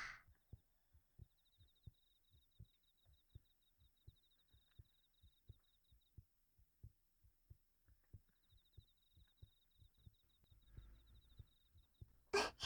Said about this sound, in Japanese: 私の胸がお兄さんに当たってるのわかる？ドキドキドキドキって動いてるでしょ。